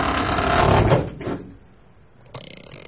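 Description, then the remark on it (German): A wardrobe door is pushed shut with a person sitting inside the wardrobe: a second of scraping, rustling movement ends in a short knock, followed by quiet and a faint shuffle near the end. “Ich setze mich in den Schrank. Sind Sie verrückt? Machen Sie die Tür zu.”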